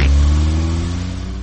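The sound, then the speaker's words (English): An old family car, just fixed, has its engine rev loudly: a deep rumbling drone with strong low harmonics that holds steady, then eases off slightly toward the end. “Ah, it's good to get our old car back again.”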